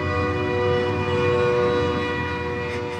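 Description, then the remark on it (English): A train passes on tracks that run along a road, its horn blaring in one loud, sustained chord over a steady rumble of rolling wheels. No one speaks. “Elena lives in a small house across the train tracks that go along the road.”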